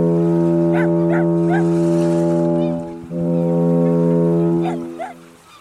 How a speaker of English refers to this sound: Her voice quivered as the foghorn bleated boldly again and again.